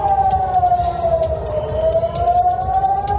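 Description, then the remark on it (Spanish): An air raid siren in Tel Aviv, Israel, sounding after rockets were launched toward central Israel, wails steadily, its tone dipping slightly and then rising again, loud and sustained over a rough, noisy background with no one talking. “Al mismo tiempo, los terroristas han lanzado cohetes hacia el centro de Israel, por lo que han empezado a sonar las sirenas antiaéreas en Tel Aviv.”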